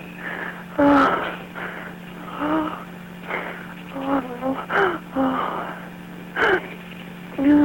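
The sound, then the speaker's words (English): Labored, painful breathing of a caller in constant pain during a phone call: strained, groaning breaths and gasps come in irregular bursts, fairly loud, over a steady low electrical hum on the phone line. “Try to relax your breathing.”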